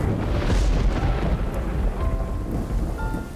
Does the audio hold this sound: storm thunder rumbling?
yes